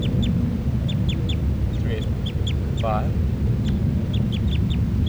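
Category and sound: bird, bird calling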